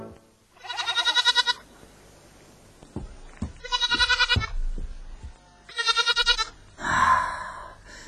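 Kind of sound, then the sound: animal, goats bleating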